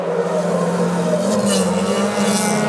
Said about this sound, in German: Ihr kennt das vielleicht, das Heulen der Motoren.